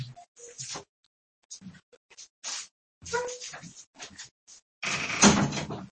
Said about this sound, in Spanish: perdonad que viene alguien en casa, voy a cerrar la puerta.